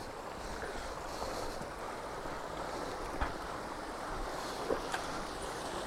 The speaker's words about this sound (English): Because this little waterfall up here is pretty good.